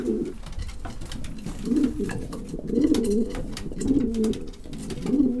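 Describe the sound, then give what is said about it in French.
A racing pigeon coos, repeating low, throaty rolling phrases about once a second, with faint clicks and rustling in the background and no talking. “Alors, peu importe le nombre, le plaisir, c'est de le voir arriver du concours. De le prendre dans la main.”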